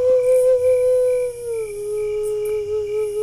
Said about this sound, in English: Man and canine howl out full moon madness. Bare their soul.